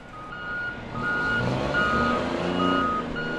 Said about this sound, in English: Trucks and cranes spring into action as a 900-foot container ship docks here at the Port of Oakland.